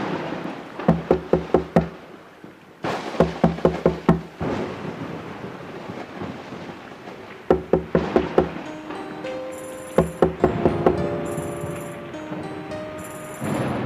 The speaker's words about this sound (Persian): کیه؟ کیه در میزنه؟